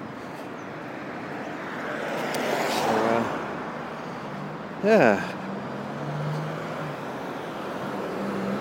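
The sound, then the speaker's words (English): Steady roar of traffic on a busy dual carriageway, heard from a bridge over it as cars drive underneath, with one vehicle swelling louder as it passes. A person briefly speaks over the constant road noise. “It's quite an odd feeling when you watch the dual carriageway and you actually see cars driving right underneath you.”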